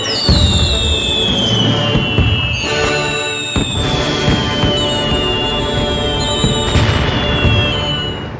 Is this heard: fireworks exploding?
yes